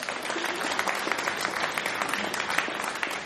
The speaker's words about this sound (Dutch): En natuurlijk nog een keer een applaus voor Femke Moore.